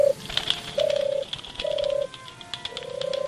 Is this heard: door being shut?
no